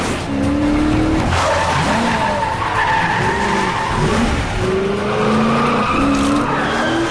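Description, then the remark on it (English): Car tires screech and skid loudly and continuously as a police car spins around and speeds down an exit ramp during a chase, the squeal wavering in pitch over a steady engine roar, with no one speaking. “Spins the car around and hurtles down the exit ramp with more CIA vehicles joining the chase.”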